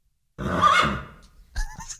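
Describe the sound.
A person imitates a horse whinny with a loud, wavering, high-pitched neigh lasting about a second, followed by a short, quieter nasal burst.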